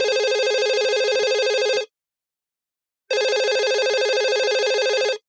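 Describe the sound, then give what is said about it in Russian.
A telephone rings in two long bursts separated by a pause of about a second, loud and bright, with no voices present. “Говорят, помогает, как телефон опять затринкал.”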